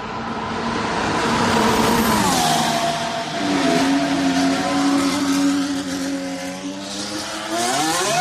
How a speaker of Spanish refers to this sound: Así suena el motor del coche del Renault de Fernando Alonso, que se ha vuelto a montar en él.